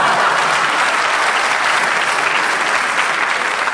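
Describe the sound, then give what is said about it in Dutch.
Steady, dense applause from a large audience, loud and sustained evenly throughout with no voices standing out. “Je kan erom lachen en je kan erom klappen, maar je kan er niet meer tegenhouden.”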